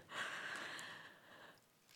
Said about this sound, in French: J'espère que ça va pour le son. Je ne peux pas m'empêcher de respirer, donc vous entendrez ma respiration.